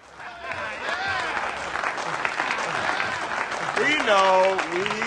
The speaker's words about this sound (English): Early in the film, two daring members of the police force, played by Samuel Jackson and Dwayne Johnson, The Rock, return triumphantly to police headquarters after catching some bad guys. They're welcomed with a round of applause.